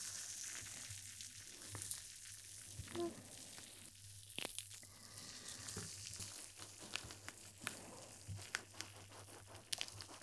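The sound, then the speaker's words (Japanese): Carbonated water fizzes in a steady, crackling hiss as it is spread into every corner around the ears, dotted with scattered sharp little pops and crinkly bursts that come and go unevenly for the whole stretch, with no voice over it. “隅々まで炭酸を行き渡らせます。”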